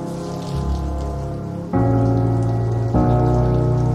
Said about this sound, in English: Jack is in his upstairs apartment taking a shower.